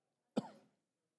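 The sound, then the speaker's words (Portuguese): A single short throat-clearing cough, fairly loud, with a sharp onset that quickly trails off, followed by silence; the speaker's throat is affected by very dry weather. “Desculpa, presidente, a garganta, o tempo está muito seco.”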